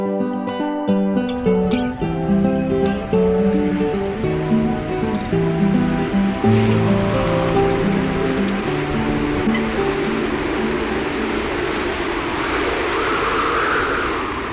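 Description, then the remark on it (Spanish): A strong wind blows with a steady, rushing roar that swells toward the end, mixed under sustained musical notes moving in slow steps. The wind is blowing away rain-laden clouds. “Un viento muy fuerte comenzó a soplar, alejando las nubes cargadas de lluvia”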